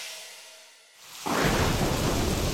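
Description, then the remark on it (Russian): A faint hiss gives way, just past a second in, to a loud crash of thunder and the steady, heavy roar of pouring rain that fills the rest of the moment. “Небо, услышь, нам нужен дождь.”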